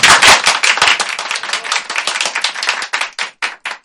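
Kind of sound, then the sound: crowd, round of applause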